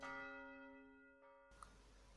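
A single deep clock bell strikes once for eleven o'clock in a city centre, its rich ringing tone slowly decaying before cutting off abruptly into low background noise.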